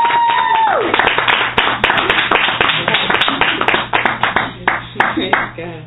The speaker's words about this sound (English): Come on, let's give her a round of applause.